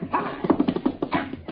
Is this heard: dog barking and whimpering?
yes